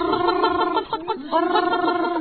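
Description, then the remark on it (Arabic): Loud frog croaking in two long, rattling, throaty bursts separated by a brief dip, with no talking. “أنت يا ضفدع، حاول أن تخفض صوتك أرجوك.”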